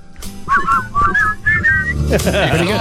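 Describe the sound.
Several people at a radio station whistle a short melodic tune together, clear bright tones rising and falling in phrases, followed by a burst of overlapping voices and laughter near the end.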